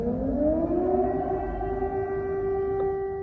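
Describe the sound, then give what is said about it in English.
A loud air raid siren in Ukraine wails steadily, its tone rising at the start and then holding a sustained howl throughout, with no voices present. “Every 2 or 3 hours there are being sirens, and we have to run to the bunkers.”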